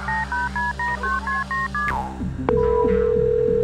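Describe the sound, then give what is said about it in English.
Cell phone speed dial tones as a phone taken from a belt clip is opened and its speed dial button thumbed to call another phone: a quick, evenly paced run of about eight beeping keypad tones, followed by a sharp click and a steady, sustained tone, clear with no talking. “Jack McCabe took the cell phone from the clip on his belt, opened it, and thumbed the speed dial button that would connect him with Terry's phone.”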